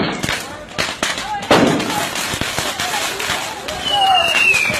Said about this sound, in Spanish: En Guatemala y El Salvador, las calles se llenan de pólvora y cohetes, cuyo estruendo simboliza alegría y fuerza para espantar lo malo.